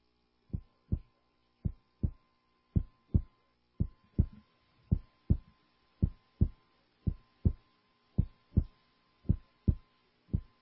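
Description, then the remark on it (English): A steady human heartbeat thumps in paired lub-dub beats, about fourteen even pulses over a faint background hum, with no voices. “That's the sound, you're listening, of your heart beating.”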